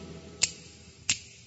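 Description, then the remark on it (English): Two crisp finger snaps, about two-thirds of a second apart, sharp and bright against a faint low hum, with no talking. “Everybody and snap your fingers now.”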